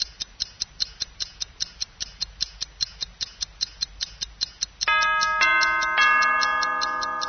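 A clock ticks steadily and briskly for several seconds, then begins striking ten, its bright bell-like chimes ringing out and overlapping as each new stroke sounds. No one speaks.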